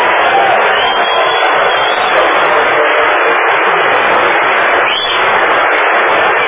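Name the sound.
audience applause and cheering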